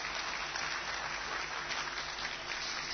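A crowd of men, asked to rise to their feet and clap, clapping together, a dense, steady wash of many hands applauding at once for a few seconds with no one speaking.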